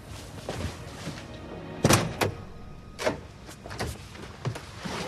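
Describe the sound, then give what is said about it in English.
A car's driver's side door handle is pulled and the door of a sleek, blue 1960s-style car opens: a sharp latch clunk followed by a few lighter mechanical clicks and knocks spaced over several seconds, with no one speaking. “He tentatively touches the handle to the driver's side door before pulling it open.”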